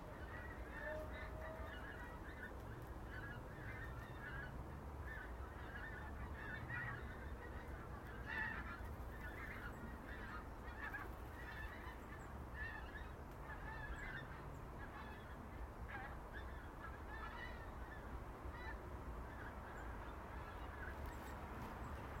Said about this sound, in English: Oh, geese.